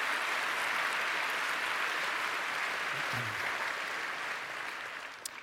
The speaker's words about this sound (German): Also da vielleicht ein kleiner Applaus für die Kollegen im BAMF, die Domain dann zurückgehalten haben.